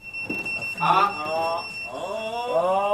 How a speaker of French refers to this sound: Nous sommes au foyer et vous avez entendu qu'il y a des bips ont sonné, donc ça veut dire qu'il y a une intervention. Une fois qu'il a bipé, on peut lire la mission, l'engin et la raison du départ.